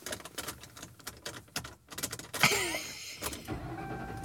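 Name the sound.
car engine running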